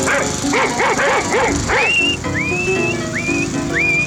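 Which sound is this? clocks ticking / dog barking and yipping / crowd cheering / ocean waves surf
dog barking and yipping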